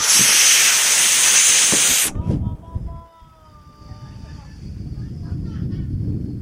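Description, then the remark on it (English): A loud, steady rush of gas hisses out of a balloon being huffed for about two seconds and then cuts off abruptly, leaving faint squeaky tones over a low, muffled rumble. “Just huff one of these balloons.”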